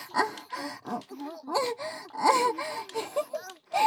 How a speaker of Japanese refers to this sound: 何泣いてるんですか。泣きたいのはこっちですよ。